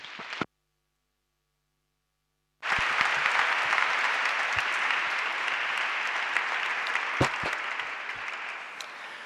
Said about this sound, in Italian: Vi facciamo un grande applauso.